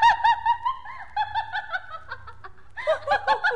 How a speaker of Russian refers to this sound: Кто это? А, сороки!